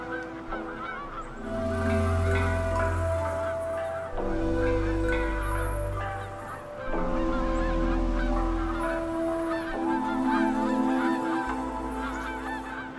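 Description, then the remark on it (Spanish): Geese honk in a dense, overlapping chorus throughout at a temporary lagoon where they winter, loud, with low rumbling underneath. Sustained tonal notes rise and fall in a few long phrases. “Las grullas o los gansos no podrían sobrevivir sin estas aguas efímeras que les sirven de hogar invernal, de refugio y de descanso.”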